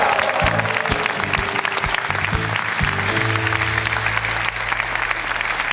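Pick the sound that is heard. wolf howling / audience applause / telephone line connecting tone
audience applause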